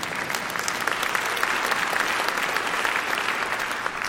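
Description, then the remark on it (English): An audience bursts into steady applause, many hands clapping at once in a dense, even patter that holds at a fairly loud level for several seconds with no voices standing out. “If you don't like your sin, you'd have clapped.”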